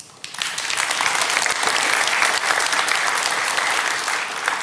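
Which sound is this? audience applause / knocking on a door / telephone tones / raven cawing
audience applause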